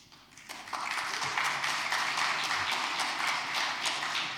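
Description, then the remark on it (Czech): Audience applause for a marathon personal best time of 3:18 swells in after a brief quiet start, then carries on as a dense, steady patter of many hands clapping at even loudness to the end. “Naštěstí máme mezi sebou ty, kteří ten čas 3:18 dokáží ocenit a zatleskat.”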